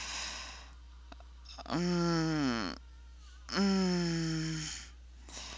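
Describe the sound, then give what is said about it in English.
Two long, drawn-out moans from a woman, each sliding downward in pitch, with heavy, breathy exhalations around them and no talking. “But she's moaning. She seems to like it. It's difficult for her. Heavy breathing.”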